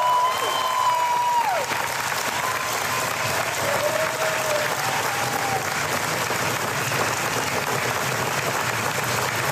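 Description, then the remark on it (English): Sustained applause from a large audience at Walt Disney World for two group members present since day one, a dense steady clatter of clapping lasting the whole stretch, with a few whistles and cheers rising above it early on. “A round of applause, everybody, for Israel Molina and Marika Rosella Cavina.”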